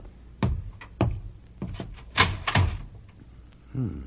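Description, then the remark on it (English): A door being worked open: a series of sharp wooden clunks and rattles spread over a few seconds, ending with a brief creak, with no talking. “There's the door.”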